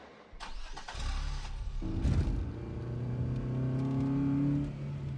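A car engine cranks and catches, then revs and settles into a steady, rising drone as the vehicle pulls away, loud and close, with no voices.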